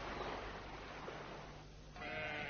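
sheep bleating

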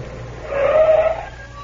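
car stopping

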